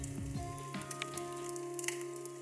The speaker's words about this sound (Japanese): これは焚き火だね。うん、パチパチ聞こえて、これはこれで落ち着くね。